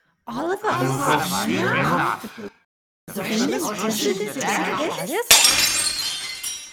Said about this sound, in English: Oh dear, broken glass in the kitchen again.